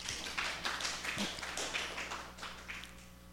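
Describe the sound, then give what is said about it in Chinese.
An audience applauds to give glory to God, dense overlapping claps forming a steady crackling wash of sound that holds for a few seconds and thins slightly toward the end. No one speaks over it. “我们再一次鼓掌，把荣耀归给神。”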